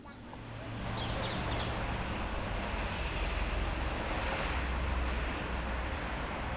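A steady wash of road traffic beside a park, cars rumbling past continuously, with a few faint bird chirps early on over the low hum.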